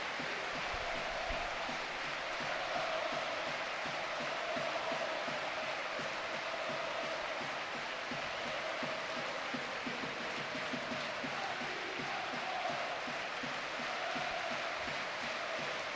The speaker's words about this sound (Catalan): Bueno, todo el món en peu, eh? El bes i l'abraç de Santi Cazorla, l'emoció de l'estadi, aplaudiments i sa camiseta.